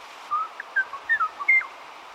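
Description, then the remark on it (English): Kauai o'o song, a forest bird of Kauai, Hawaii, recorded in the native rainforest of the Alakai Wilderness: a handful of short, pure whistled notes spaced irregularly, soft, over a steady background hiss, with no talking. “Sadly, the Kauai o'o's gentle song was heard for the last time nearly 20 years ago.”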